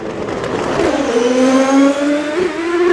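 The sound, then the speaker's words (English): A racing sports car engine revs hard and loud during a sports car race with Ferraris and Porsches, its pitch climbing and dropping through gear changes as it roars past, with no voices over it. “we have sports cars, Ferraris and Porsches in a different race”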